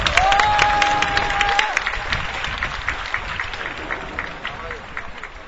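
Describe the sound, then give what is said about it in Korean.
A crowd applauds steadily for about five seconds to welcome a bereaved family member of a Yongsan victim, a dense, crackling patter of many hands that thins slightly toward the end, with a thin sustained whistle-like tone riding over the first second and a half. “이명박 정권에 대한 울분과 그리고 지금까지 정말 굽힘없이 오랜 기간 투쟁에 선봉에 서서 여기까지 와주신 우리 유가족 분들에 대한 감사와 연대의 마음을 담아서 힘찬 박수로 모셨으면 좋겠습니다.”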